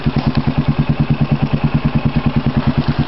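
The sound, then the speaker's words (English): A 2003 Kawasaki KVF 360 ATV engine, bored out 50 over, idles steadily, its low, throbbing pulses repeating in a fast, even rhythm with a mechanical clatter on top. No one speaks over it. “There she is, boys. 2003 Kawasaki KVF 360, board out 50 over with glass back.”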